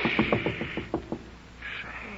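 A quick run of about eight sharp knocks on a door, evenly spaced and gradually softening, followed by quiet with a faint high-pitched ring near the end.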